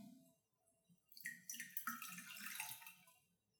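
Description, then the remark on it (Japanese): Warm yellow urine is poured away down a drain in a steady splashing gush lasting about two seconds before trailing off. Soft handling sounds come first, and no one speaks. “ちょっとじゃあ流しますね。”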